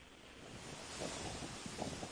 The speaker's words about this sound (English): You can hear the wind blowing on a chilly day in Washington, D.C. The sun is out.